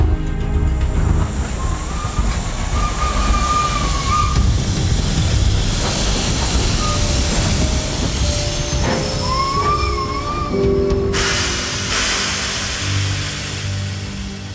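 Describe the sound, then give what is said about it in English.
A train carrying troops to the front rolls steadily along the rails on iron wheels with a continuous low rumble and clatter, steam-like hiss above it, and occasional high metallic squeals from the wheels. No one speaks. “War, sang the iron wheels. War, war. A monotonous, contented song.”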